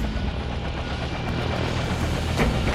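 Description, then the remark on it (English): A helicopter sets down lightly in the center of a helipad, its loud engine whine and rotor roar droning steadily and filling the whole moment, with no voices heard. “Set down light in the center of the helipad.”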